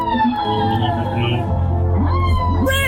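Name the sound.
whale calls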